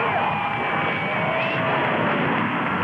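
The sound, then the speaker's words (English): A large crowd roars and yells continuously in sunshine as President Kennedy and Mrs. Kennedy appear after Air Force One lands, a dense wall of cheering voices with scattered shouts and whoops rising above it, loud and steady throughout. “Kennedy, and the crowd yells, and the President of the United States.”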